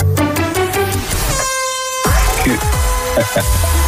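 A game timer horn ending a timed word game on 538 blares once, a steady buzzing tone lasting about half a second, set between stretches of loud, busy background noise.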